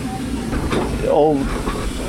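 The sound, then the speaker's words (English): A small steam locomotive on a mine railway passes in reverse. A steady, broad hiss of steam runs over low mechanical chugging, its whistle sounds, and a voice briefly speaks partway through. “Right, well, there's one, we've heard the whistle just heading past us now in reverse with our driver.”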